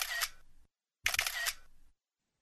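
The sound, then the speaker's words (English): Two bursts of camera shutter clicks as photos of drawings are taken for social media, each a quick crisp flurry lasting about half a second, separated by a brief pause and heard on their own with no voices. “I take photos of your drawings, please, for my social media accounts.”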